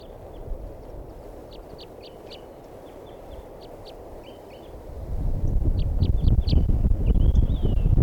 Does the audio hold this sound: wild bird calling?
yes